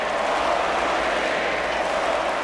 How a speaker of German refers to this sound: Immer wieder erntete Michelle Obama stürmischen Beifall und wurde vom Schlachtruf der Demokraten unterbrochen: 4 more years.